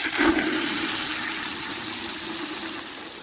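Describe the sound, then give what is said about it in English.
A steady rush of water pouring out in one continuous stream for a few seconds onto soil over a newly planted flower seed in a garden, hissy and full, fading slightly toward the end, with no voices. “Give it some water.”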